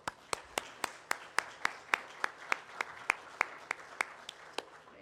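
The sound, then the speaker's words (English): An audience applauds in thanksgiving to God for their pastor and reverend, clapping in steady unison with sharp, evenly spaced claps about three per second over a softer wash of scattered hands; no one speaks. “Our applause is not enough, I could say that.”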